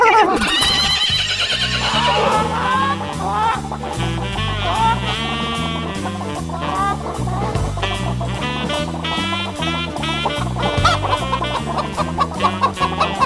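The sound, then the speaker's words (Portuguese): Chicken clucks and squawks carry a bouncy swing melody over a steady walking bass and band backing, loud and continuous, the clucking sliding and chopping in rhythm with the tune. “As famosas galinhas cantoras.”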